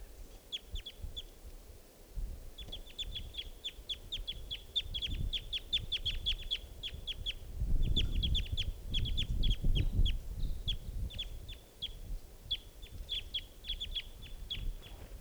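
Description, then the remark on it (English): A young, immature bird with green plumage calls in flight, giving rapid bursts of short, high chipping notes in repeated runs over a steady low rumble, with no talking. “It's got green, oh, that was it, calling in flight.”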